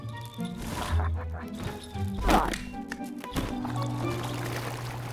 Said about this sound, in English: He falls, breaking the paving, but not the block of ice.